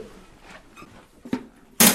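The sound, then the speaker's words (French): A letterbox flap clacks shut: a light tap, then a loud, sharp clack of metal at the end after a quiet stretch with faint shuffling. “Et maintenant, on attend le claque de la boîte aux lettres et on le dit tous ensemble.”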